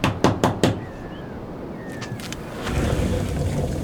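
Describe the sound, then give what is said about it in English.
A back door opens with a quick series of sharp clunks and rattles, followed by a steady rush of outdoor air and ambient noise that swells and continues. “Back door open.”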